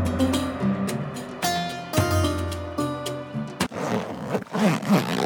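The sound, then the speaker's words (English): Soft music plays, then stops and gives way to a scratchy rasp of a backpack zipper being pulled open over a couple of seconds, with uneven bursts as the slider moves. “Did you hear that zip sound? That's our belief backpack opening up.”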